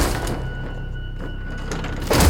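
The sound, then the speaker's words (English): A few dull, muffled thuds land against a second-floor window of a house over a low, steady background rumble, with the final knock at the end noticeably louder than the rest. “I hear a thud on my window.”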